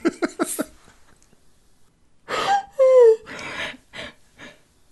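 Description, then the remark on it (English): A man snores loudly: a quick rattling flutter, then a few heavy, raspy breaths, one with a whistling, wheezy tone, and no talking. “snoring is worth the price of admission on this episode.”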